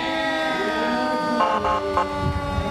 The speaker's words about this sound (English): And now coming are two fire engines. The first fire engine and then an ambulance. Got their sirens going. It's a Russian River, beautiful, beautiful fire engine. You can hear it coming by.